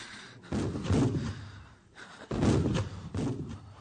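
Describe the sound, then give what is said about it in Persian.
Three deep, heavy booms of cannon fire roll out one after another, each with a rumbling tail, echoing across open ground, with no voices present. “این توپ ها برای مرگ ماست که شلیک میشود.”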